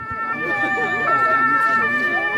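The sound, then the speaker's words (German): The siren of the new children's fire-engine vehicle of the Säulingen volunteer fire brigade, used by children at its presentation and sounding like a real fire siren, wails steadily with sustained high, bright tones over a low rumble of background noise, holding fairly loud and even throughout. “Wie eine echte Feuerwehrsirene hört sich das neue Kinderlöschmobil der Freiwilligen Feuerwehr in Säulingen an.”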